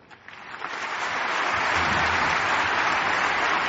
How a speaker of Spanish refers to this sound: Aquí, en la que fue su casa, recibe el aplauso de todo el pabellón Príncipe Felipe.